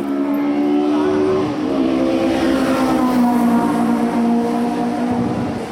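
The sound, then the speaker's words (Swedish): A race car roars past on the straight of a race track at dangerous speed, its loud engine whine dropping sharply in pitch as it passes, then holding a steady drone as it pulls away toward the curve. “Därför är en bil förbi på rakan här i en farlig fart och försvinner bort mot kurvan.”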